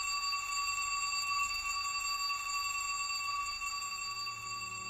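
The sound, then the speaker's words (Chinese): A school bell rings continuously for the full stretch to signal the end of class, a steady, bright electric ringing at moderate loudness with no pauses and no one speaking. “一帆转身向楼下走，可就在这时，下课的铃声响了”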